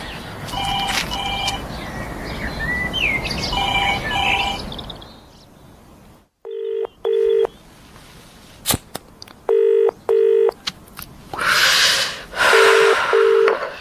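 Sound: telephone dialing and ringing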